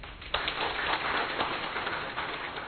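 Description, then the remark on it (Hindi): An audience breaks into steady applause to welcome a guest speaker before a morning session, a dense, even patter of many hands clapping that starts abruptly and holds at a constant level for a few seconds, with no voices. “हम तालियों के द्वारा उनका स्वागत करते हैं।”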